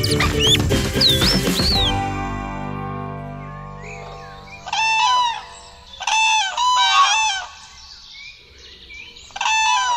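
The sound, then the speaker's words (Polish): Birds call in loud, harsh bursts, a burst of squawking at the start, then several bright, rapid honking calls in repeated clusters, with no talking. “To strasznie nerwowe życie jest tych ptaków.”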